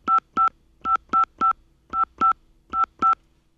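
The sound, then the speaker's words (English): Ten short telephone keypad tones enter a 10-digit phone number of all fives to appear on caller ID, each beep an identical steady two-pitch chirp, pressed in quick uneven clusters with brief silences between. No one speaks. “Please enter the 10-digit phone number you wish to appear on the caller ID.”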